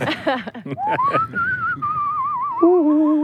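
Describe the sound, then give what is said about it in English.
A person whistles a long rising note that turns into a wavering, warbling tune, ending on a steady lower tone, after a few brief voiced sounds at the start. “they call me that because I'm a crazy whistler.”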